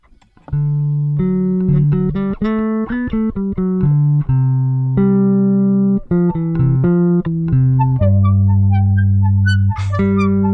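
A rock song intro riff played for the guessing game How Fast Did You Know?: a quick run of bright, steady electronic-sounding notes at an even, loud level with no voices, ending in a few high chirpy tones.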